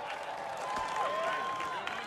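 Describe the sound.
A crowd at a ball game cheers and shouts, with cheering from the dugout, in a steady, dense roar of many voices, with a few louder calls rising above the din throughout.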